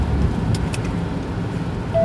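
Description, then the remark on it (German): Steady rain drums on a moving car, heard from inside, over a deep, continuous low road rumble, a dense wash of sound with faint brief patters on top and no voices. “Wir haben strahlenden Regen, was wollt ihr mehr?”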